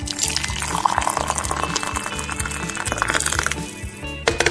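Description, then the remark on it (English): At 5:30 a.m., water pours steadily into a dry coffee pot to refill it, with a gurgling, rising fill, accompanied by light clinks and handling sounds, over a low continuous hum. “Oh, the coffee pot is dry. Let me fix that.”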